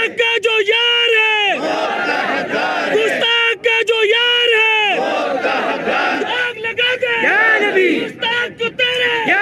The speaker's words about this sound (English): The crowd is chanting in Urdu, "Friends of blasphemers deserve death," and "Prophet, we sacrifice our lives for you."